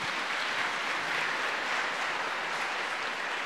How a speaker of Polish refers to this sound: Wielkie brawa.